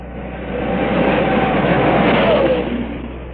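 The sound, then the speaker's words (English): Joe Leonard's Parnelli Jones team race car wheels onto the track, its engine roaring, swelling over a couple of seconds to a loud, steady drone before easing off as the car moves past, with no voices. “Joe Leonard, the defending United States Auto Club champion and winner of the California 500, wheels onto the track in the first of Parnelli Jones team cars.”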